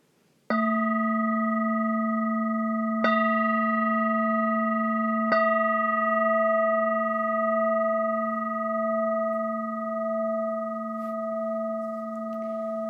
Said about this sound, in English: At this point, it's customary to ring three bells, and then at the end of these bells, we all will bow together.